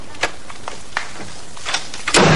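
A door being handled: a few sharp clicks and rattles of the latch, then a louder thump as it swings shut at the end. No one speaks.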